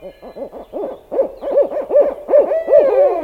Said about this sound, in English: Some owls, including big birds like barred owls and great horned owls, live in the city.